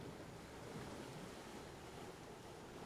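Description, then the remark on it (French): Sea waves wash steadily onto a deserted beach with black rocks, in a constant, hissing roar, with wind mixed in and no distinct individual breakers standing out. “De petites barques à tête de monstres rouges et bleus se bercent au gré des vagues.”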